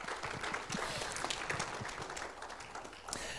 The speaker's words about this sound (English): And you can clap your hands. That's good.